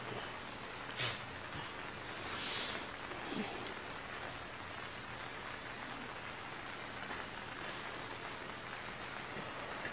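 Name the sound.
rain falling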